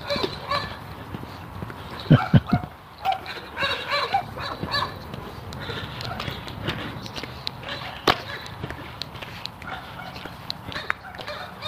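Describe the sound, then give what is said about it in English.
Dogs bark behind a fence in a few sharp bursts, most prominent early on, then scattered yaps over a busy outdoor background with faint murmuring voices and shuffling steps. “There might be a dog behind this fence.”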